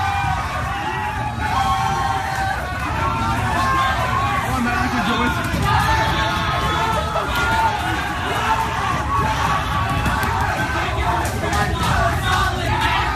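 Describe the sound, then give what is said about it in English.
A large crowd at a Sydney train station in Australia cheers and yells continuously for about thirteen seconds, a loud, steady roar of shouting voices while a man runs up an escalator. “Meanwhile, in Australia, an Australian man attempted to show off his athleticism by running up an escalator in front of a cheering crowd at a Sydney train station.”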